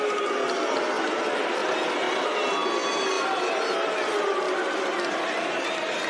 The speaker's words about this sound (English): I think they're saying sue, which is a soccer thing, a football thing.